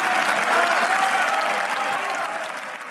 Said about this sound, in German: Ja, ich kann mich auch nicht daran erinnern, dass man jemals schon mal quasi Standing Ovations oder auch irgendwelche Jubelrufe aus dem Publikum gehört hat, wenn